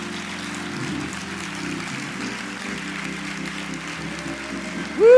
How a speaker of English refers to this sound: Thank you. Go ahead, give the Lord a hand clap of praise for them.